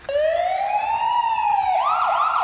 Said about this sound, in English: If you follow me, I'll show you how we make the siren sound. Oh, good. And when we use the siren, we use our red emergency lights as well. It's pretty loud. Are you ready? Okay, yeah. Here it goes.